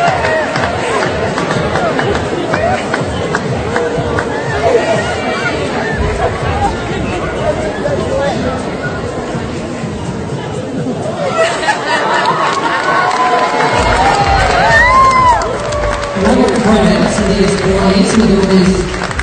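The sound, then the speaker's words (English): A packed room erupts in applause and cheering, a dense, continuous roar of clapping and excited voices that stays loud throughout, with shouts rising above the din toward the end. “So if anyone's listening on Spotify, you'll probably just hear the applause from the crowd and you can hear the emotion in the room.”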